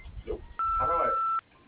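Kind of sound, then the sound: signal or alarm, voicemail recording tone beep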